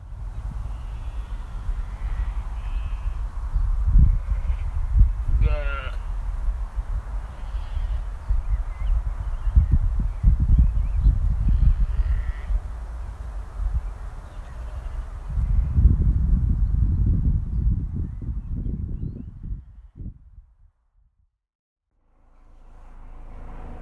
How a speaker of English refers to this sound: And also the fields around as well are a beautiful shade of green, and the sounds are just of the sheep bleating and the birds tweeting. I can just hear the echo of a road not too far away